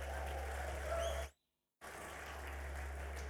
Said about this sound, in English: I think we should just give the worship team a round of applause.